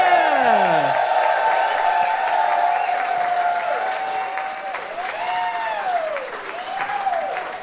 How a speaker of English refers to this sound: Well, we're going to be joined on stage by two guests. Could you please give them a big round of applause now?